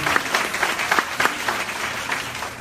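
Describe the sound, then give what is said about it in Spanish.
A church audience applauds together for the Lord, a dense, steady wash of many hands clapping with faint rhythmic accents, sustained at moderate loudness with no voices clearly standing out. “¡Cuánto le un aplauso al Señor!”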